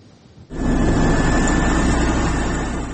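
A tractor engine, driven by a 40-year-old man with one leg, kicks in after a brief quiet moment and runs at a loud, steady rumble with a faint whine on top, no voices present.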